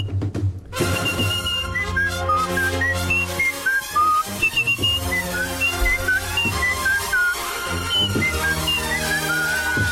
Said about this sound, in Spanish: Es nuestro concurso de silbidos, abierto a toda Andalucía en el Flexo